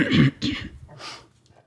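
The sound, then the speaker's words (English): A burp, rough and throaty, breaking into a loud first burst followed by two softer, rasping pulses that trail off within under two seconds, with no talking. “I had to burp.”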